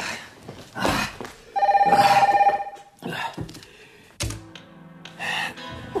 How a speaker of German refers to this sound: Mitten in der Nacht. Du machst so einen widerlichen Radau. Was ist los? Alarmstufe Rot, Genosse. Knallrot, Feuerrot. Priorität 1A. Jetzt nimm endlich ab das Phone.